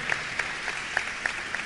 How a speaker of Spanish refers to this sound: Presentamos e invitamos a subir al escenario al equipo de la Secretaría. Convocamos a Juan José López Martí, Director General de Tecnología de la Municipalidad. Un aplauso entonces para este equipo.